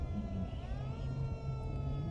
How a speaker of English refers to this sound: but then we heard the sound that froze all of us. One siren after another. With each wail of the sirens, the more aware I became of the smell of burnt flesh.